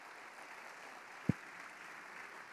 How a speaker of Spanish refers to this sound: Antes, démosle un fuerte aplauso a Jorge.